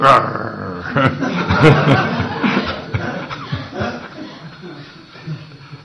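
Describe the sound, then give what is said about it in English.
A person mimics a dog barking with a couple of short vocal woofs, fairly loud, amid chuckling laughter and ongoing talk. “If you call someone, excuse me, sir or madam, whatever, and they go, woof, woof.”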